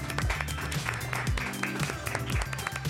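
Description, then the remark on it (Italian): An audience applauds steadily, a dense crackle of many hands clapping over a backdrop of upbeat music with a pulsing low beat, welcoming a cosplayer guest as she enters. “E la facciamo entrare! Un applauso, ragazzi!”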